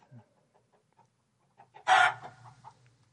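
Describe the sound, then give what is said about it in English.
A few faint, scattered chicken clucks give way to a single loud, harsh rooster crow that bursts out and trails off quickly. There is no talking. “And whenever there are chickens, there are also roosters.”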